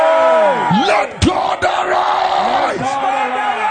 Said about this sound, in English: Somebody shout, hey!